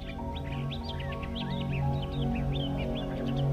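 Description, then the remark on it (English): Birds chirp and twitter continuously in quick, high bursts over a steady low hum of outdoor ambience, with no voices present. “Sounds of the bird, the sun and the wind touching your skin.”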